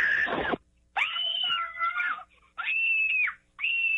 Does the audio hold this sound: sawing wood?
no